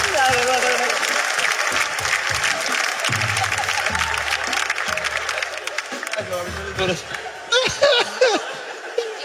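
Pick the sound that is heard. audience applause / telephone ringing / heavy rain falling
audience applause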